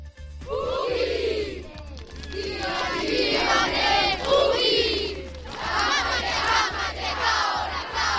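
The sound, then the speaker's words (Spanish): A large crowd of schoolchildren in Gijón shouts a haka war cry in unison to welcome the All Blacks at their morning training at Las Mestas, loud rhythmic chanted phrases with sharp accented calls, sustained throughout over a steady low hum. “Con el grito de la jaca han recibido los escolares de Gijón a los integrantes de los All Blacks, premio Princesa de Asturias de los Deportes, en el entrenamiento que han tenido esta mañana en las Mestas.”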